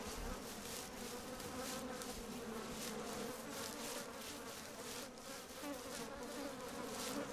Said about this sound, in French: Tiens, j'entends que ça bourdonne autour de moi.